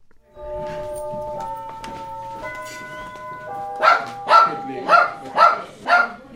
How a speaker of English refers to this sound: Thirteen-year-old dog Zoe is the feisty protector of the home